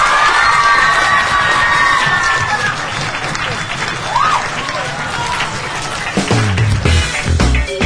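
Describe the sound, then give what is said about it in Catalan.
A large group of students from the Institut de Palamós school cheers and applauds loudly and continuously, with shouts and whoops rising over dense clapping throughout. “Que hem de passar una bona jornada a veure aquest aplaudiment de l'Institut de Palamós.”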